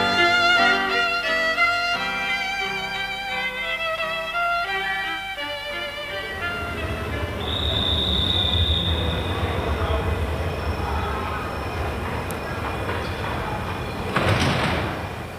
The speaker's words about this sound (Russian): Сколько людей сегодня на вокзале? Не проберешься просто. О, смотри, вон и наш поезд стоит.